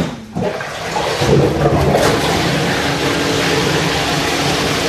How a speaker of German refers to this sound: Also muss man sich jetzt einen großen gläserischen Kasten vorstellen, wo von unten jetzt Wasser hochgepumpt wird.